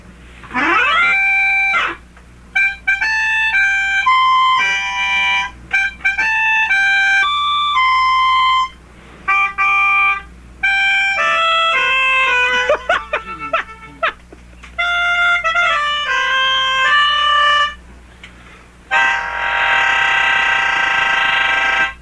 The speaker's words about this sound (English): Happy birthday to Lisa from Charlene, and playing happy birthday on the melodica is Ben.